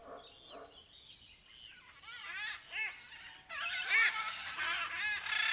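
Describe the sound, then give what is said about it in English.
A flock of parrots that flew in through an open window squawking and screeching indoors, perched all over the furniture, calls overlapping in a harsh, chattering din that swells louder and busier halfway through, with no talking. “What are all these parrots doing in here?”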